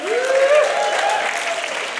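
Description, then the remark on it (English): A church audience claps steadily and loudly throughout, with a rising whoop of cheering carried over the dense, continuous applause. “Can you make some noise for a second?”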